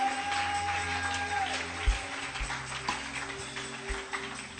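audience clapping hands

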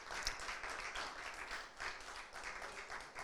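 audience applauding

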